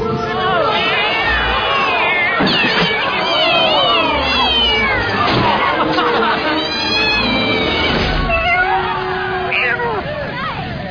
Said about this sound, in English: Holy shit, it's a cat.